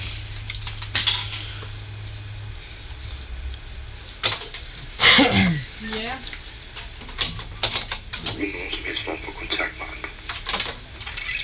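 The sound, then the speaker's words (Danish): Irregular, crisp clicks and taps, like fingers typing on a computer keyboard in uneven bursts, as someone writes an intro and outro text on screen, with a brief whooshing sweep and faint background noise partway through. “Så skriver jeg nu på skærmen et oplæg og nedlæg.”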